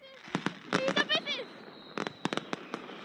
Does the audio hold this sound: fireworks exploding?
yes